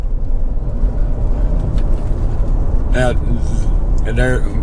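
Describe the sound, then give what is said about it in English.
A truck rumbles steadily as it pulls in by the dump, its engine drone loud and constant, with two brief high-pitched squeals breaking through near the end. “The truck's back there pulling in.”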